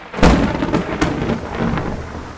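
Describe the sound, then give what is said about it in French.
Heavy rain pours down in New York at 6 pm on a Friday evening in a steady, dense hiss, with a deep rumbling burst like thunder near the start and a sharper crack about a second in. No voices. “Sous une pluie battante à New York, à 18h le vendredi soir, une dizaine de limousines noires arrivent au siège de la Fed, immense forteresse au sud de Manhattan.”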